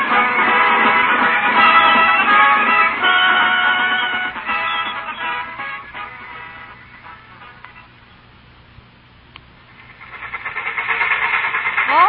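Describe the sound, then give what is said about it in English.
A train from New York rumbles and clatters along the rails with a steady hiss, fading to a quieter stretch before swelling loud again near the end. No one speaks. “Well, I still can't figure why we couldn't wait in New York for a later train.”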